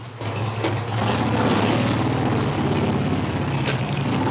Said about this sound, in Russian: Протоиерей Вячеслав Харинов привел колонну мотоциклистов в деревню Кабона к храму святого Николая Чудотворца.